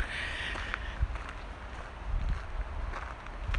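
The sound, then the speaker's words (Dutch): Footsteps of a person walking on outdoors as the weather turns dry again after rain, a series of soft, irregular steps over a steady background of wind and outdoor ambience, not loud, with no one talking. “Nou, ondertussen is het trouwens weer een beetje droog aan het worden, dus ga ik weer verder lopen.”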